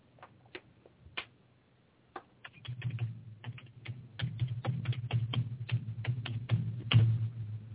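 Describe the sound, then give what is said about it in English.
Typing a login on a computer keyboard: a run of quick, irregular key clicks, sparse at first and then steadier, over a low hum with no talking. “I want you to tell me what my login is by the way I'm typing.”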